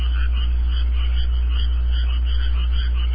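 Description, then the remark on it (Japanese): Frogs croak continuously as background music, a dense chorus of repeated calls over a steady low hum, with no speech. “でも後ろに流れてる BGM はカエルと。”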